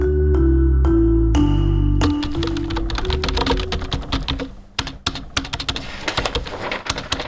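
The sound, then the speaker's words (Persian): Rapid, uneven clicking of keys on a computer keyboard, crisp, starting after a couple of seconds of sustained low tones that fade beneath the steady typing. “اوف، کاری تایپینگم از یک هفته مانده، بیخی دلم تنگ سا.”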